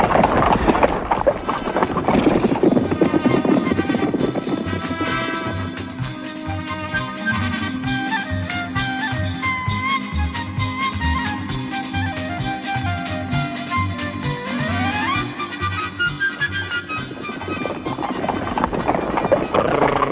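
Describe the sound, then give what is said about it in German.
Steady clip-clop of horses' hooves as riders move along at an even pace, the rhythmic beats continuing throughout over a low background bed of sound, with no talking. “Ich muss mich an meine Befehle halten. Los, Gerard. Wir reiten auch weiter.”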